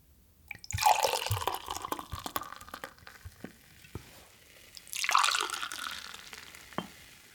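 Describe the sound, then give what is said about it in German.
A drink is poured into a glass twice, with fizzing, hissing and splashing and a few light clinks between the pours. No one speaks. “Mein Glas ist leer, wollte ich gerade sagen. Dein Glas ist leer.”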